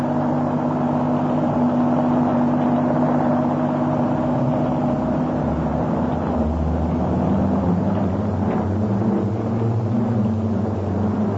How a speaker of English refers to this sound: Somebody's heard the car.